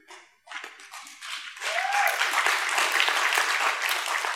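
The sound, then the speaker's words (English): Scattered claps quickly swell into dense, steady applause from a crowd, a continuous crackling wash of many hands that stays loud to the end, with a brief rising tone mixed in. “Whoever's clapping over there, your money's on the way.”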